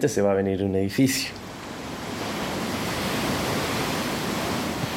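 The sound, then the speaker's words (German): A voice speaks briefly at the start, then a steady, soft wash of ocean surf takes over, a continuous hushing roar of waves rolling gently onto the shore of the Peninsula as the sun slowly sets into the sea. “Die Wellen rauschen sanft.”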